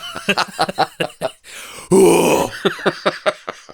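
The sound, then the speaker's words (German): A voice imitates the grunting scream that tennis players make on TV: one loud, strained, drawn-out cry lasting about half a second, framed by a series of short, rhythmic voiced bursts before and after. “Du musst dann aber auch so schreien wie die im Fernsehen dann.”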